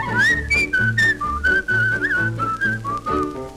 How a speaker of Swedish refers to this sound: Kan du inte sjunga med så vissla om du vill.